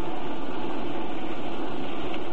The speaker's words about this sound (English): I mean, except the sound of those motors.